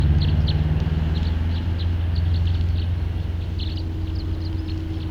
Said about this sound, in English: Sounds like there's a really big flock somewhere off to the west. But I don't see it.